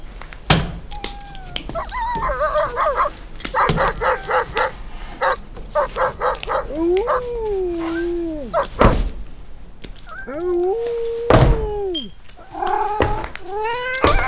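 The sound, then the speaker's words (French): Six dogs, among a dozen cats, greet visitors entering, barking in quick, excited bursts, then breaking into long rising and falling howls, loud, with sharp yips between them and no one talking. “Oh, les chats et les chiens nous font la fête.”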